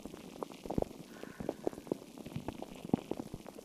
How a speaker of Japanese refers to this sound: 目をつぶると炭酸水の中にいるような、そんな感覚になりますよね。